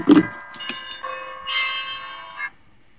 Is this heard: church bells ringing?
yes